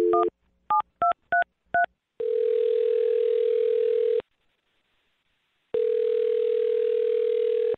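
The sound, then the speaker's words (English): A quick run of about five touch-tone keypad beeps as a phone number is dialed, followed by a steady telephone tone that sounds for two seconds, pauses, then sounds again. Clear, with no voices. “All right, here we go. I'm dialing the phone number.”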